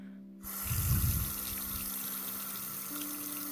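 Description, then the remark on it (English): A tap is turned on and water runs steadily into a sink to wash a mask off someone's face, with a brief louder gush at the start before settling into an even flow. No one speaks. “Don't worry, I won't make the water too hot.”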